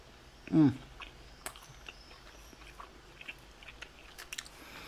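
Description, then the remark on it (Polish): Chewing of dried mango: soft, sticky mouth clicks and small crunches scattered irregularly after a brief low hum near the start, quiet and otherwise alone. “No to sprawdźmy, jak smakuje. Nigdy nie jadłem suszonego mango.”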